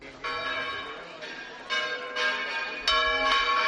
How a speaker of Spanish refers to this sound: Ese es el repique de campanas de San Atilano, ¿no? El patrón de Zamora.